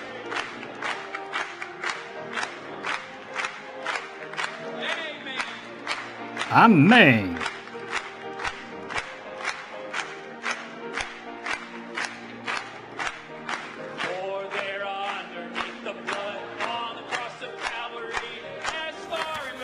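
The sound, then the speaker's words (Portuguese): An audience claps for God in a steady, even rhythm throughout while voices cheer and call out beneath it, with one loud rising shout partway through and a brief spoken word. “Batamos palmas para Ele.”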